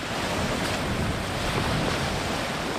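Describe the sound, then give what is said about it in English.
Steady rush of surf and gusting wind along the Lesbos shoreline, a dense, continuous roar with no voices and no distinct breaks, fairly loud throughout. “On the Lesbos shoreline, volunteers continue their round-the-clock vigil on the lookout for migrant boats.”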